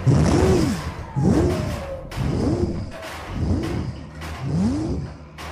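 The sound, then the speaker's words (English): The TARDIS takeoff effect from Doctor Who: a loud, wheezing whoosh that swells and fades in five steady cycles, each with a groaning tone rising then falling in pitch, with no talking. “I didn't watch much of Doctor Who, but at least I know the TARDIS makes a bunch of weird noises when it takes off.”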